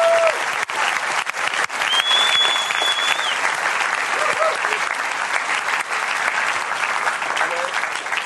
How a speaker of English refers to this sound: Okay, give these people a clap. Look, these people are going to get baptized.